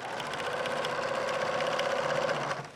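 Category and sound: machine, sewing machines humming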